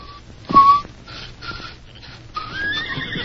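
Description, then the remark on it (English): Soft human whistling by an outlaw leader, monotonous in tone: a few short, thin notes with brief gaps, then a longer wavering note that rises slightly, heard alone. “had heard the soft, monotonous whistle a few seconds before death had struck from the muzzle of one of the Whistler's guns”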